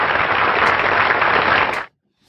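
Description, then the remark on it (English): A steady burst of audience applause at a show, given for Roadkill Bill, a stuffed dog toy. The applause is dense and loud, holding evenly for almost two seconds before stopping abruptly, with no voices heard. “You get some applause, Bill.”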